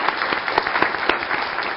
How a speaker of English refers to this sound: Amy is not here, but we'll give her a round of applause.